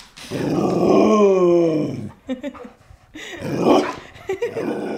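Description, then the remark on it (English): Luna, a 90-pound Border Collie Great Pyrenees mix dog waiting at home in Brooklyn, lets out a long, drawn-out groaning moan, followed by a few short grunts and a second, rougher groan, fairly loud with no other sounds around. “After the event, I came back home all the way back to Brooklyn, opened the door, and there waiting for me was my dog, Luna.”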